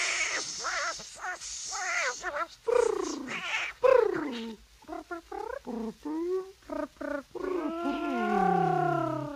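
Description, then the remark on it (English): A voice imitates a cat in a song, singing a long run of drawn-out, wavering meows one after another, loud, with the later cries stretching into longer mewling wails. “Come ye out, come ye out, my pretty kitten. Meow.”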